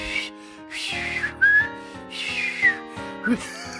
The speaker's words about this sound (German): Hast du nicht den Kunstpfeifer von Loriot, den Kunstpfeifer?